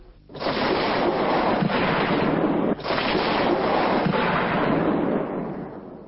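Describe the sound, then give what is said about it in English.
A dense barrage of gunfire, fired during the Bosnian Serbs' attack on the town of Srebrenica in July 1995, merges into a continuous rough roar lasting several seconds, briefly breaking off once midway before resuming, with no voices. “Those gunshots were fired during the Bosnian Serbs' attack on the town of Srebrenica in July of 1995.”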